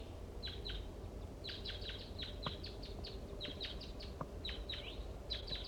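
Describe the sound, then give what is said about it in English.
Wild crossbills calling down a hollow: repeated short, high, downward chip notes in quick bursts and pairs, fairly faint over a steady low rumble, with no voices. “Some crossbills are down the hollow and they sound like little guys.”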